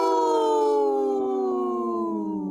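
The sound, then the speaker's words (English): A person imitates a wolf howl on the radio show Native Roots Radio: one long, loud, sustained cry that slowly slides downward in pitch over about two and a half seconds, with no talking during it. “My wolf sounded hurt.”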